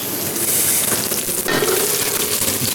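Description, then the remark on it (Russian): Red carrots sizzle in melted butter in a pan with a steady, dense crackle and hiss that swells slightly midway as they hit the pan, continuing without any talking. “Отправляю более долго готовящийся продукт – морковку.”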